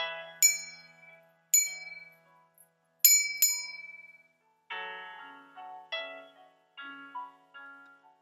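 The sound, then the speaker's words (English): A small, bright bell is struck three times in slow succession, each clear ring decaying before the next, with later strikes sounding slightly lower. Moderately loud, with no voices; the three rings signal silence. “If you ever hear a bell in three rings, it means silence.”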